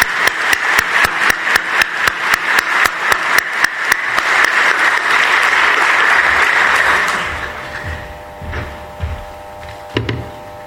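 Audience applause for politician Georgi Kadiev at a political party's founding assembly begins as loud, rhythmic clapping in unison, swells into a dense, steady wash of clapping, then fades after about seven seconds into a few scattered claps and a faint steady tone.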